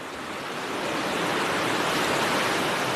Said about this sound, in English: What you're hearing are the glacier-fed waters of the Yukon River as they rush toward Whitehorse at Miles Canyon. The undulating walls were created by a volcanic eruption and lava flow millions of years ago.